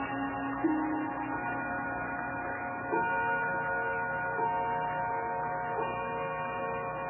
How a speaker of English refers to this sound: Ah, there's that bell again.